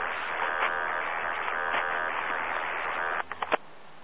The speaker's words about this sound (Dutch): Ja, ik hoor van alles eroverheen knalden. Ook signaal vanuit het, een beetje vanuit het oosten, zuidoostelijke richting. Ik denk dat dat Deventer ronde is of zo. In ieder geval uit die buurt, dacht ik.